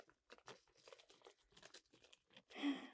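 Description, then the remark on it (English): A small plastic bag holding home-baked cookies crinkles and rustles in quick, irregular bursts, ending with a louder crunchy tear as it is opened. “I actually baked these cookies. I put them in these little bags. Would you like to try one?”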